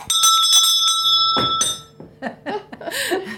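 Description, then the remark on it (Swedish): The recess bell of the Tomteboda school rings loudly and continuously for about two seconds with a bright metallic clang, then stops, followed by faint rustling and a person speaking. “Och här står också ringklockan.”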